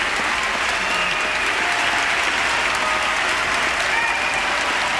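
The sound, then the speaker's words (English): Sustained, loud applause from the entire joint session of Congress at the 2007 State of the Union address, a dense steady roar of many hands clapping at once with no pauses, filling the whole five seconds. “This is the entire joint session applauding.”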